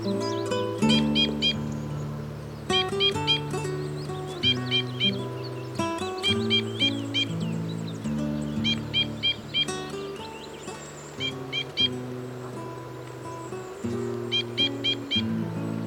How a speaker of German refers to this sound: Das war der Bindenkreuzschnabel.